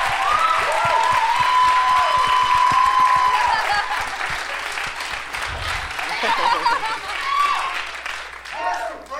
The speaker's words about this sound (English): They love you, man. Thank you. I'm always filled with shame when people clap for me.